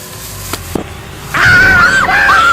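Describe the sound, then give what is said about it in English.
A cornered rat squeals loudly and continuously in shrill, wavering cries by a cabinet, after a couple of soft knocks. No one speaks. “He's screaming.”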